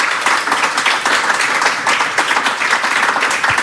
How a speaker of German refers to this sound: Passiert selten, dass wir haben das jetzt hier nicht live gehört, sondern es war eine Aufnahme, die bei den Proben entstanden ist, dass es Beifall für eine Aufnahme gab.